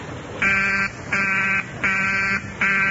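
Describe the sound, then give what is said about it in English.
A telephone busy signal on Dr. Kendall's line: a buzzy, mid-pitched tone pulsing on and off in a steady rhythm, four bursts with short gaps between them, and no voices. “His line's still busy.”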